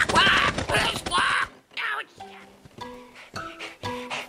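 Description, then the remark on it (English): Loud, harsh bird squawks burst out in a rapid cluster, then give way to a series of shorter, more tonal squawking calls with brief gaps between them. “It's so cool that you got a job on the radio, even with your incredibly weird squawk.”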